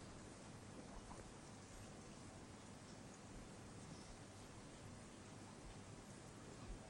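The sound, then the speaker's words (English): Steady rain pours down in a dense, continuous hiss, with fine drops pattering evenly on a surface and no voices or other sounds breaking through. “It is because we're interested in the experience itself, not in the rain, how much it rains and so on, but just in the experience of hearing.”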